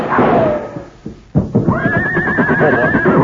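animal, horse neighing

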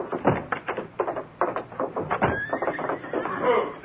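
animal, stallion whinnying

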